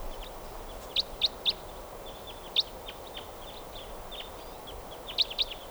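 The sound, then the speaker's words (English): A type 4 crossbill flying over gives short, sharp, high-pitched chirps in small bursts: a quick run of three, a single note, then a pair, over a steady low background hiss with no talking. “Oh, and a type 4 bird happens to be flying over right now.”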